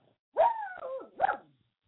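A female dog barks twice, reacting to something heard outside a window: a drawn-out, tonal bark that slides downward in pitch, then a shorter, sharper one. Both are fairly loud, with no talking over them.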